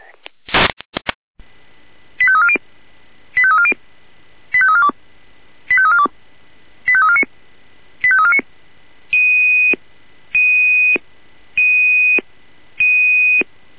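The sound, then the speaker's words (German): Fire brigade dispatch alert tones over a radio channel for a home smoke detector alarm at Moskaustraße 5 in Kala: a short burst, then five repeated sequences of quick stepped electronic tones, followed by four longer steady beeps, loud and regular. “Jener mit Einsatzalarm für die alarmierten Kräfte Moskaustraße 5 in Kala, Heimrauchmelder.”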